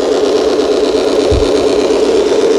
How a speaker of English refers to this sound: See the ice auger he has? He put it together and he starts drilling a hole in the ice.